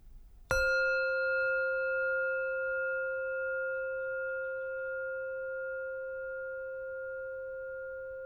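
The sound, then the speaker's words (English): A meditation bell is struck once to mark the beginning of a meditation session, with a bright metallic hit that blooms into a steady, shimmering hum of layered tones, fading very slowly and ringing on alone for several seconds. “Now that we've gathered ourselves, we'll ring a bell to mark the beginning of our meditation session, which continues with steps 3 and 4.”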